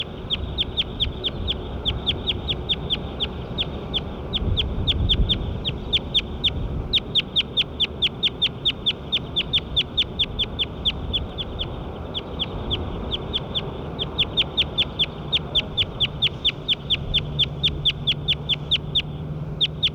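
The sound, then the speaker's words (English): A recording of bird nine: a long, steady run of rapid, high-pitched chirps repeating several times a second without pause, over a low rumbling background hum. “Start recording bird nine again.”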